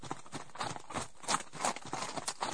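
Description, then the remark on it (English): Reindeer hooves, Dasher and his brothers and sister, trot up in a steady, rhythmic clip-clop of sharp hollow knocks. The knocks repeat quickly at a moderate volume, with no voices over them. “Anna went outside and whistled for Dasher, and he came trotting up with his brothers and sister.”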